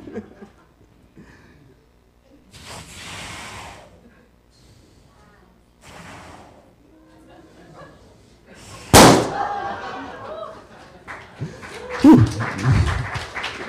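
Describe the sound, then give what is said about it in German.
A balloon bursts with a single sharp, loud pop partway through, following quiet rustling and breathy noises, with muffled voices and commotion continuing right after the bang. “dann wird es dir irgendwann gehen wie diesem Luftballon”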